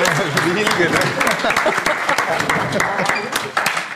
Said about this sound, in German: Wusste halt nicht, warum ihr klatscht. Ja. Als Überleitung.